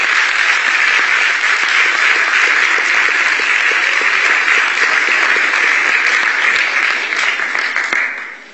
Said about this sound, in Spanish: Un fuerte aplauso.